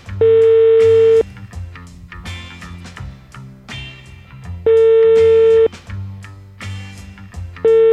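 A phone ringback tone sounds as an outgoing call made on Radio SK goes unanswered and reaches voicemail: loud, steady one-second beeps spaced a few seconds apart, with soft background music playing in the gaps.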